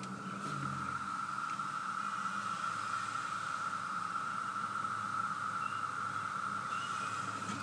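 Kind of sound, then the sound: insect, cicadas buzzing in trees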